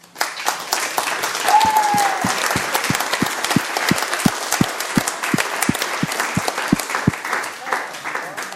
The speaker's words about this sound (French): Et pour terminer, on va les applaudir très, très fort.